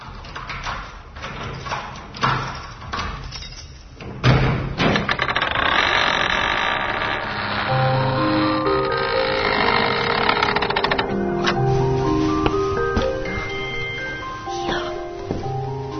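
A large, sword-like key rattles and clicks in the lock of the Church of the Holy Apostles Peter and Paul for a few seconds, then the heavy church door swings open with a long, loud, groaning creak that shifts in pitch.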